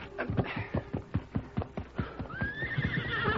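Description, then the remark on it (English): In a Lone Ranger story, a horse whinnies over steady, rhythmic hoofbeats clip-clopping as Nelson runs to his horse, the high neigh rising clearly near the end while the hooves keep a brisk, even pace. “And putting on his boots, he ran to his horse.”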